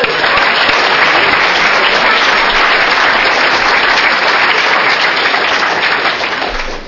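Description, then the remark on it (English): A crowd claps loudly and steadily for several seconds, a dense, continuous wash of applause from many hands that fades slightly at the very end. “All right, give him a clap.”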